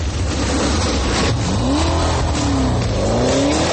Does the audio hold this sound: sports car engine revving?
yes